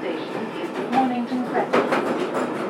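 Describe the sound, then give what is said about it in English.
Inside a moving London Underground Northern Line train heading south from Camden Town: a loud, steady roar of wheels and motor with rattling, clattering bursts and rhythmic clicks over the tracks. “I am on a Northern Line train”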